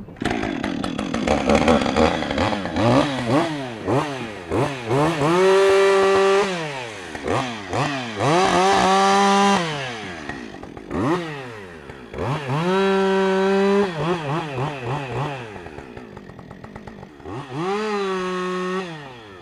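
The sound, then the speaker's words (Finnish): A chainsaw cuts through a birch log, making set sawing cuts to shape a nest box for a tit, loud, its engine repeatedly revving up, bogging down and easing off in several bursts of sawing, with no talking. “No siinä on muutama tietty sahausliike, mikä tehdään.”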